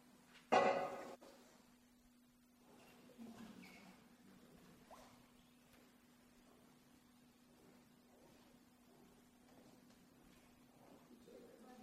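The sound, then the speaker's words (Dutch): Previously frozen water from the Jordan River is poured into a baptismal font by a child's cousins before a baptism, starting with a short, loud splash and settling into soft trickles and drips against a steady low hum and faint murmur. “Jullie mogen dat nu hierin gaan schenken, het water.”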